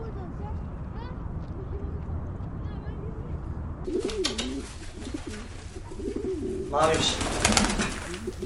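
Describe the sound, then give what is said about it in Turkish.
Pigeons coo in an attic in low, throaty, repeated phrases, moderately loud, with scratchy rustling and hiss underneath that grows busier toward the end. “Çatı arasında Savaş ve güvercinler.”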